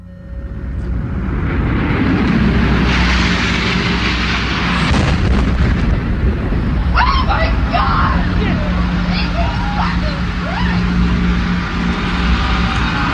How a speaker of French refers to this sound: Flash spécial pour vous annoncer ces très spectaculaires explosions. Ce serait un attentat selon les médias américains à New York, au cœur de Manhattan.